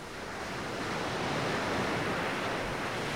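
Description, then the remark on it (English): Ocean waves wash steadily onto a beach, a continuous broad hiss of surf that swells slightly and holds, with no voices present. “You walk down to the beach where the waves of water come and go and sit down in the sand.”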